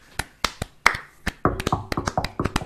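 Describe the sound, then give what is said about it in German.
A short burst of hand clapping, a dozen or so sharp, bright claps in an uneven rhythm, loud and crisp with no talking over them. “auch einfach mal Applaus an euch selber.”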